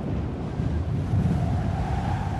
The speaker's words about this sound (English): Another click adds the background, in this case mostly wind.